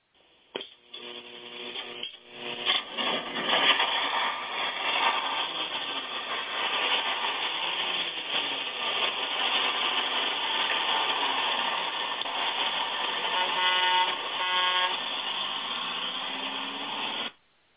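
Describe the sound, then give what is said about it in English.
A bus engine idles with a steady, noisy rumble for the full stretch, and a horn sounds briefly near the start and again toward the end. No one speaks. “who do we got on the old gospel bus as we pull out tonight from the station?”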